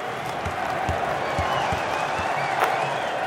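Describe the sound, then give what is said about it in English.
A large crowd at the Lakers' L.A. Forum, there for Kobe and Shaq, roars and applauds steadily, a dense wash of clapping and cheering voices with scattered low thumps and a brief louder swell near the end. “The sound of the crowd gives Kobe an adrenaline rush.”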